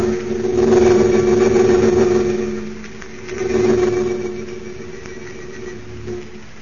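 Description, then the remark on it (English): A converted army bomber's engines drone in flight high above a dark layer of storm clouds, heading toward the American border, with a steady, low, throbbing hum, swelling louder twice and then easing back, with no voices over it. “High above a dark layer of storm clouds, a converted army bomber streaks in the direction of the American border.”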